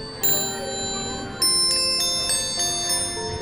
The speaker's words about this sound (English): Listen to the bells, Derek. Oh, that's lovely. Describe that Christmas piece for us, please. This is called our Animated Symphony. It's got five settings on it